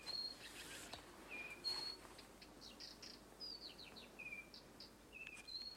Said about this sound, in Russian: Знаете, как птицы поют на заре? Ну, конечно. Ну, это концерт. Это же симфония. Послушайте.